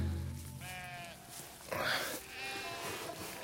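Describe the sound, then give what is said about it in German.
Sheep bleat repeatedly, several wavering, overlapping calls from a flock, some loud, others softer, with a low rumbling background throughout. “Wenn in wenigen Stunden die Sonne senkrecht steht, wird es zu heiß sein, um die Schafe über die Felder zu führen.”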